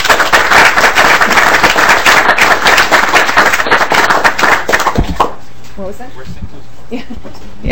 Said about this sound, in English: They're participating in the Minnesota Historical Society Capital Historic Sites Voice of the People, Your Role in Minnesota Government Tour and Educational Program. Welcome to the committee. I'll give them a round of applause.